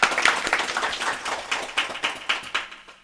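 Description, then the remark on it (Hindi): An audience claps to welcome guests being garlanded at a Sapna company event: a dense patter of many hands that starts loud and thins toward the end into scattered, more distinct claps. No one speaks. “आप लोग तालियों से इनका स्वागत कीजिए।”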